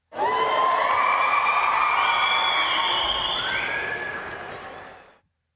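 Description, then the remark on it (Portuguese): A large crowd of fans in a stadium at the Copa Bola de Sorvete cheers and shouts excitedly, a dense wall of overlapping voices and whoops that stays loud for about five seconds before cutting off. “A torcida começou a ficar agitada e a gritar.”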